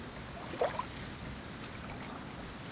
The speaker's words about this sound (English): As I look at these boats passing by, I think maybe it could be that easy to just leave everything on the shoreline and go off on an adventure.